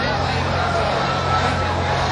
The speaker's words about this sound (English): Okay, the sound just stopped. The music just stopped and they're screaming